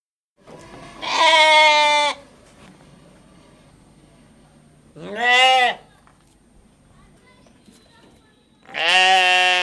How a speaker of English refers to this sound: For that, we take you to 10 uninterrupted minutes of farm sounds.